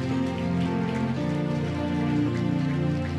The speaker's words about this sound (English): Can we bless Jesus with a clap? Do it very well. Do it very well.